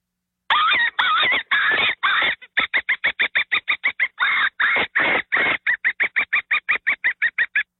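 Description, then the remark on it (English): A hand-blown open-reed predator call gives a few long, harsh, wavering distress squeals imitating a dying animal, then switches to a fast, steady string of short, sharp bursts mimicking a woodpecker. Loud, with no talking. “So what I did was I did a kill sound. Okay, but then I went into a bird sound, a woodpecker.”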